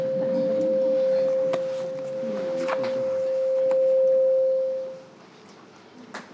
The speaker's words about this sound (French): Bon, on commence les changements de micro. Ça n'annonce rien de bon en général.